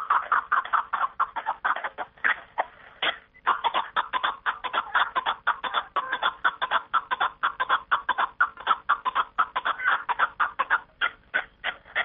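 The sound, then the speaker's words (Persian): A snowcock calls in the Panjakent area in a rapid, continuous run of chuckling, cackling notes. The rhythm is busy and steady over the whole stretch, loud, with no talking. “نفرانی هم بودند که به رام و پرورش کپک دری مشغول بودند. خانش آن که در او بیش از آدران”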